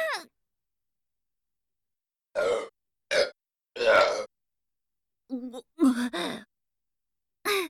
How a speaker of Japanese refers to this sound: ちょっと勘弁してよ。3発も連続でゲップ出しちゃったじゃん。さすがにこれは恥ずいわ。